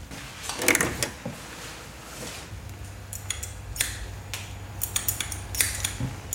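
Scissors snip and click rhythmically in time during a haircut, the first cut snipping at air, crisp metallic ticks coming in loose bursts, while a low steady hum runs underneath for most of the time. No one speaks.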